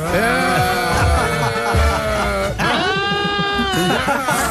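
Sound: goat bleating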